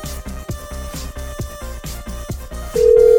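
An electronic telephone ringing tone pulses in a quick, steady repeating pattern, then switches to a louder continuous beep at the end. No one speaks.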